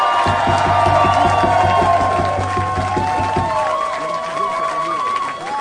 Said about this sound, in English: So a big round of applause